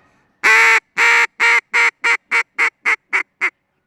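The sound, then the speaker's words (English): A medium hail call blown on a duck call toward ducks about 100 to 150 yards away: about ten loud, raspy quacks in a steady descending cadence, each note shorter and quicker than the last, played alone. “we're seeing birds now, we'll say 100, 150 yards away, and we'll give them a kind of a medium hail call.”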